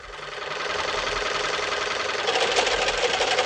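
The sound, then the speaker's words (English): A malfunctioning sewing machine, used to alter a dress, runs steadily with a rough, rattling mechanical whir, growing louder and harsher near the end as if straining and clattering. No voices. “Having trouble with your sewing machine?”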